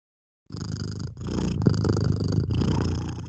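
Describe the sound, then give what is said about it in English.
A cat purrs steadily, a low rumbling vibration that pulses in rhythmic breaths after a brief silence, with no talking over it. “Yeah, she's a purr.”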